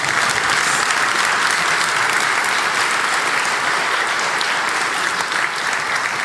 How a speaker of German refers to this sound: Einfach nur für den Vibe, aber Applaus für das Backoffice bitte.